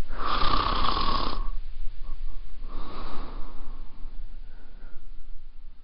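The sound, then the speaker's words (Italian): Muffled snoring coming from Aunt Polly's bedroom in slow, steady cycles: a loud rasping inhale, a pause, then another softer snore, as if heard through a wall. No one speaks. “Un russare ritmato e attutito usciva dalla camera di zia Polly.”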